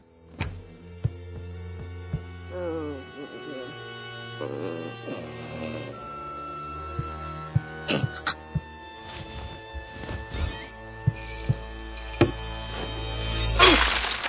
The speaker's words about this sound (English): Oh, no. What have I done? I smashed open my little boy's piggy bank, and for what? A few measly cents.